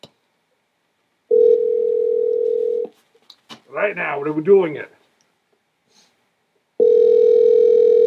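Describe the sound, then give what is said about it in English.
A phone's ringback tone on an outgoing call to a randomly chosen person buzzes steadily for a second or two, pauses while someone speaks briefly, then starts buzzing again, loud as if through a handset. “Let's see if someone answers.”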